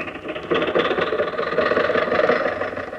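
A car engine runs steadily with a rattling, chugging hum as Rochester gets the car going, starting a little softer and holding at a constant loud level throughout, with no voices.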